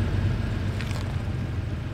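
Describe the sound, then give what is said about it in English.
An air-cooled Porsche 911 sports car engine drones steadily with a deep, throaty rumble, loud, holding an even pitch for the whole couple of seconds with no voices. “And it's just pure sports car. Air-cooled, making all kinds of weird noises.”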